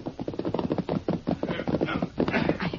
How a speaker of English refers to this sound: Yeah, it's a posse, all right. No prisoners. The horses sound tired.